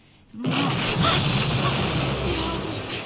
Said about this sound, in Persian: چی بود؟ صدای انفجار راکت بود.